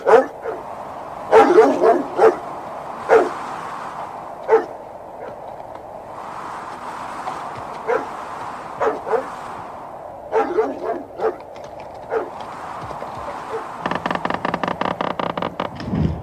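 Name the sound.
dog barking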